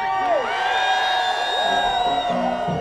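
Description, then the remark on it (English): Hundreds in a second line street procession celebrating the late Fats Domino cheer and whoop together, many high overlapping shouts and yells forming a loud, steady roar that never lets up across the few seconds. “Anybody hear my voice? Make some noise for Fats Domino!”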